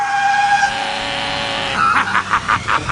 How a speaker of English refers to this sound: The wheel spins and the bus zooms off a cliff.